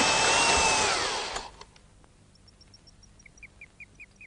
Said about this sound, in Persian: مت یه فرچه رو به دریل بس کرده و باش ظرفا رو میشوره